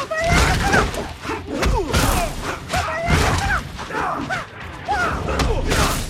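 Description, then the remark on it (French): Fighting video game combat sounds from a fight between Liu Kang and Scorpion: a loud, continuous flurry of punches, thuds and crashes mixed with short shouted grunts and cries rising and falling in pitch, with no one talking. “Dernière question, on va vous passer un extrait d'un combat.”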